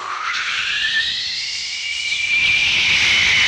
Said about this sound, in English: And so the jet engine came along with a.